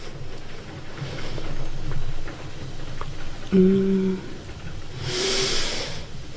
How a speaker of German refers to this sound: Ich hoffe übrigens, dass man nicht gerade den Regen zu dolle hört. Hier fängt es gerade wieder an zu schütten. Das gute norddeutsche Wetter.